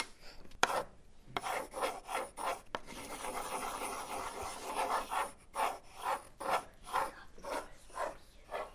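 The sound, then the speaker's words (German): A pencil is pulled out with a small click, then scratches across paper: a few short strokes, a long steady scribble, and a run of quick rhythmic back-and-forth strokes, with no voices. “Richtig, Mia hat einen Stift aus ihrem Mädchen geholt und damit gemalt.”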